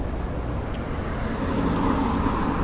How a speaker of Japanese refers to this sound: 車の音がね存分に入るぐらい道路は近いんですけれども、まああんまりこの時間だとね、子供たちもそんなにいませんしね。まあ、そこそこ静かな環境で今撮れてるような気がします。